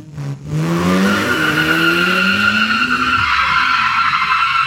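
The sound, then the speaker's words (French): A sound-effect generator's rendering of a car: the engine revs up with a rising whine as it accelerates, then tires squeal loudly in a long, sustained screech as the car brakes very hard to a stop. The sound is loud, with no voices. “J'ai demandé par exemple une voiture qui s'arrête, qui freine super fort Attendez, on va écouter ça.”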